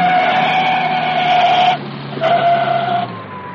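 A car's tires screech loudly in a long, steady high-pitched squeal, break off briefly, then squeal again before giving way to a lower rumble as the car slows after its emergency brake is grabbed. No one speaks.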